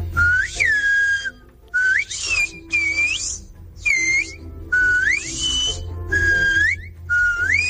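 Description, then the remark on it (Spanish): A loud whistled greeting in Silbo Herreño, whistled by the president of the Silbo Herreño association and saying hello to radio listeners: a series of sharp, sliding whistles in short phrases with brief pauses between them, rising and bending in pitch like speech carried by whistling, with no talking. “es un saludo del presidente de la Asociación del Silbo Herreño, que ha dicho: hola, oyentes del Hoy por Hoy”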